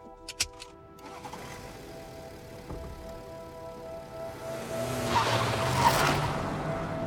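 A few sharp clicks as a man puts the key in a car's ignition, then the car engine cranks and catches, settling into a steady idle hum that swells louder toward the end, with no talking.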